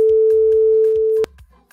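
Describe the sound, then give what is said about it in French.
A single loud, steady electronic telephone ring tone holds for just over a second, then cuts off abruptly, leaving faint background noise. “Il a sonné.”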